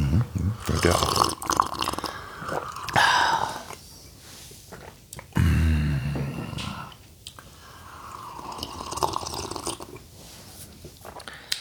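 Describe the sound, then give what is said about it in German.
Loud slurping of hot brewed coffee: a series of wet, airy sips and gurgles in irregular bursts, with brief breathy pauses between them and no talking. “So, jetzt hast du aber genug geschlürft. Dieses saftige Schlürfgeräusch wurde Ihnen präsentiert von Krups Aroma Plus.”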